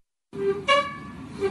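An oven door squeaks open with a sustained, horn-like tonal whine that swells brighter partway through, then settles back into a steady squeal. No voices are heard.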